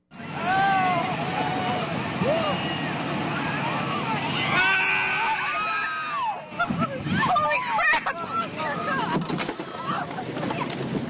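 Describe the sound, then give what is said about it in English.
A crowd of voices on the deck of the 65-foot tour boat Captain Cook shouts and cries out excitedly as a glacier calves in Tracy Arm, sending waves and ice toward the vessel, over a steady rumbling background, the calls overlapping loudly, growing more chaotic and turning to concern as people crowd around an injured woman. “The shouts heard there turn to concern as a group of people crowd around the woman lying in obvious pain on the deck of the boat.”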